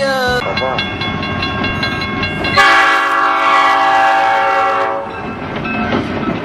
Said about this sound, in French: La crise des trains est passée. Faites-vous-en pas, là. Ils passent les trains, là. Regardez, ça roule.